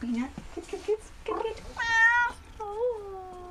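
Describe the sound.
An emaciated white cat in the convalescent suite at Broadfoot Animal Clinic on Highway 64 in Van Buren meows twice in a row, loud, with drawn-out, wavering cries. A person speaks briefly just before the meows.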